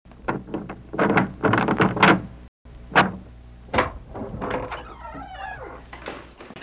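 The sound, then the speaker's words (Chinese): A house door is unlatched and swung open for a visitor, with a series of knocks and clunks followed by a drawn-out creak of the hinges. No one speaks. “嗯，是的，在家。我来开门。”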